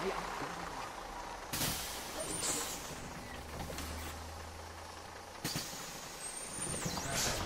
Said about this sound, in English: the bus is coming, so we have to leg it